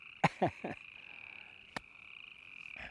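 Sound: frog croaking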